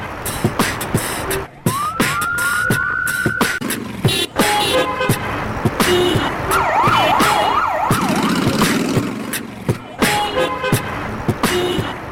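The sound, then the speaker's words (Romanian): Dense city traffic at an intersection in Drumul Taberei, layered into a collage composition: steady car engine rumble and honking horns, with an emergency siren rising early on and a fast wailing siren sweeping back and forth midway, all loud. “Da, de exemplu, la performance-ul din Drumul Taberei am încercat să fac o compoziție din trafic, din sunetele mașinii, din claxoane, din motoare, din tot felul de voci, din intersecție, și aici e ceva interesant.”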